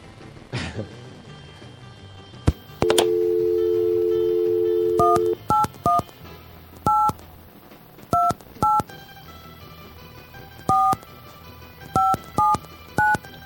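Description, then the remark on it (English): A steady telephone dial tone hums briefly, then about a dozen short two-pitched keypad beeps sound in irregular clusters as a phone number is punched in to place a call during a Kill Radio broadcast, with no one talking. “Some people could tell what the number is just by hearing those tones.”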